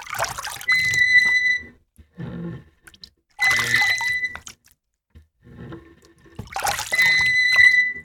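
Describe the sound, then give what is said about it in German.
Three slow rowing strokes imitated by scooping water with cupped hands between a bowl and a bucket, about three seconds apart, each a watery splash with a sharp, high creaking squeak made with a squeaking screw, with softer low sloshing between strokes. No talking. “Wenn ihr möchtet, könnt ihr zusätzlich das Quietschen der Ruder mit etwa einer quietschenden Schraube erzeugen.”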